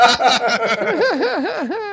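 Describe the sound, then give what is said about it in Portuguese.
An electric guitar squeals and warbles through wild pitch bends, mimicking an elephant's trumpeting call; the bright, wavering tone swoops up and down repeatedly for about two seconds, loud. “E aí ele faz uns acordes lá, um som de elefante, um som de animal, assim.”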